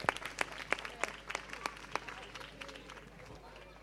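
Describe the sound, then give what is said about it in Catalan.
An audience at a school Christmas concert applauds a group of students ready on stage to play a rock Christmas carol, a dense patter of many hands with a few sharp, louder claps standing out at a steady pace early on, then thinning into a softer, fading clatter. “Un fort aplaudiment perquè ja estan a punt i preparats.”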